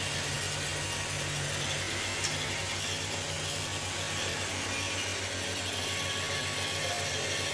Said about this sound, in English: So don't worry, you're not hearing white noise, you're hearing the Roomba.